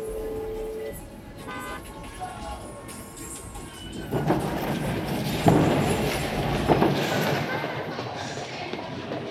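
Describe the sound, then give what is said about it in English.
A subway train rumbles in with a loud, broad roar that swells midway and stays heavy, after a few short horn-like tones at the start. Faint voices murmur underneath. “Sorry, gotta run. Subway.”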